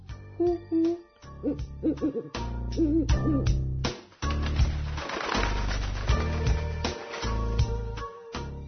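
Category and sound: bird, owl hooting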